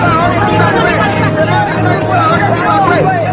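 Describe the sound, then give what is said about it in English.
A loud, dense crowd hubbub fills a street in Paris as vendors hand out papers, many overlapping voices shouting and chattering at once over a low rumble, steady throughout. “Back in Paris, vendors hand out papers to a frantic crowd.”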